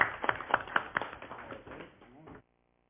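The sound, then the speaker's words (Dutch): A brief round of applause from a group at a municipal council meeting in Molenwaard, thanking a departing member. It starts with a few distinct, sharp claps that quickly blend into a dense patter, then cuts off abruptly after about two and a half seconds. “U krijgt een applaus.”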